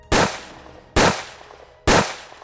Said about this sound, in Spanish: De pronto se escuchan de 3 a 4 disparos en el aire.